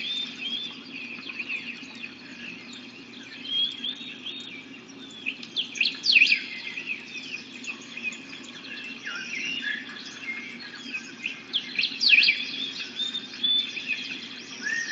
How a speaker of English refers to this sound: Notice that you are aware of the bird sounds.